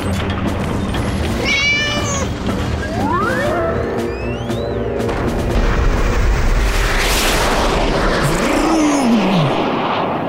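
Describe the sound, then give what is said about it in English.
A loud, continuous rumbling roar of a rattling scrap metal rocket blasting off, with rising whistling tones sweeping upward over it and the cat Wilbur meowing several times through the din. “The rocket blasted away. It rushed and roared through space.”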